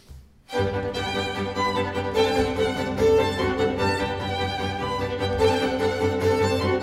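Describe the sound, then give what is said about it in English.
Four bars of Mozart, played a second time, start after a brief silence and play steadily and fairly loud, rich layered harmonies sustained throughout with no voices. “One more time, see if you can hear it all.”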